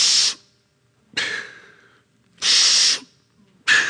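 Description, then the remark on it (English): A voice imitates a little boy's heavy, laboured breathing: four loud, rasping breaths alternating in and out with short silences between, harsh and airy like a wheezing machine. “The whole time I preach, he's breathing, every breath is like that.”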